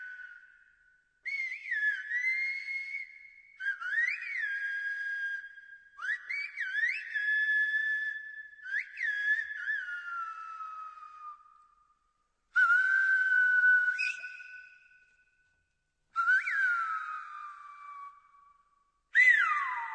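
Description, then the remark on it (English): Piercing Silbo Gomero whistled speech in a series of gliding, rising and falling phrases separated by short pauses: two local men talking back and forth across a rocky ravine, one asking the other to bring some large leather bags. No spoken voices. “This is two local men talking across a rocky ravine.”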